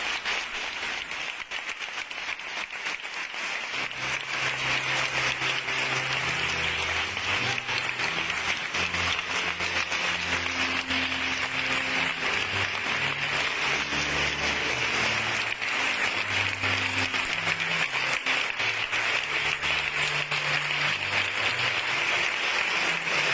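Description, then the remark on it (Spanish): A large crowd applauds continuously for over twenty seconds in a played recording, in recognition from the brothers of the Nazareno brotherhood and all of Huelva: a dense, steady roar of clapping with low, shifting musical tones running underneath. No voices stand out. “En ese aplauso”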